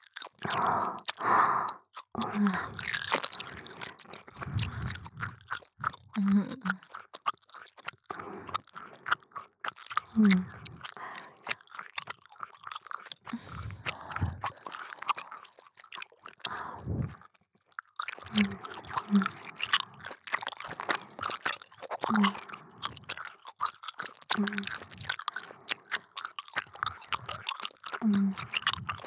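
Close-up, wet chewing and mastication sounds with crisp crunchy bites, continuing steadily in a dense rhythm for the whole stretch, with only a brief pause about halfway through.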